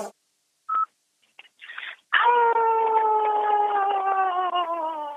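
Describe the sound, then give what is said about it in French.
Wolves howl: a long, sustained howl slowly sliding downward in pitch, loud, preceded by a brief electronic beep and some faint rustling. “Ah, une parade de loup passe en dessous de chez toi.”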